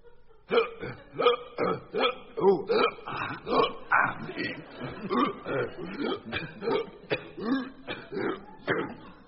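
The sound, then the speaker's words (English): A long run of loud, abrupt hiccups bunched closely together, about two per second, continuing steadily for several seconds with no pause. “The hiccups go together in a batch, in a bunch.”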